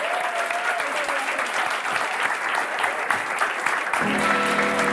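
A crowd claps steadily in a dense, sustained wash of applause, with a faint tonal hum entering near the end.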